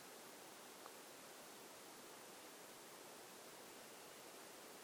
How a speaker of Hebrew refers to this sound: צליל של מזגן.